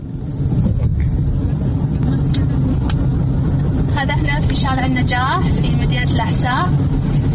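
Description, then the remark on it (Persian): Steady low engine rumble and road noise from inside a moving car driven by a woman in Saudi Arabia on Najah street, taking her sister to work; constant throughout, with a person talking over it during the second half. “من خوب ماشین میرانم و انشاءالله به هیچ کس خطر ایجاد نمیکنم.”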